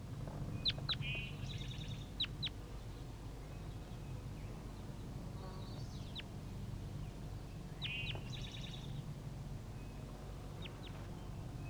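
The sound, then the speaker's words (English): Juvenile birds call in scattered bursts: sharp high chirps mixed with short, nasal, quacking notes, recurring several times over a steady low rumble, with no voices. “Start recording the juvenile birds.”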